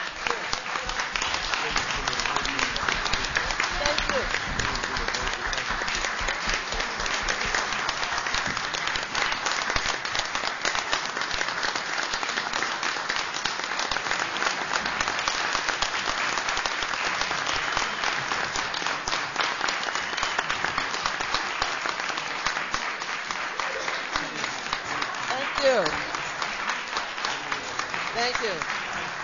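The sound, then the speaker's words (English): A large audience applauds steadily for about thirty seconds, a dense, even roar of many hands clapping with no break or fade, occasional louder claps and faint cheers within the wash, honoring the years of service of a general manager of the station WBAI. “Probably clear that this applause is not only for your comments, but also for the, I guess it must be 11 or 12 years as the general manager at the station, but a decade or more of service at WBAI before that.”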